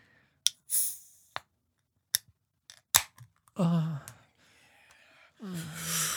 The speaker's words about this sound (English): So let me crack. Sorry. I've been drinking a little bit. Let me crack this brew and see what the fuck it's all about.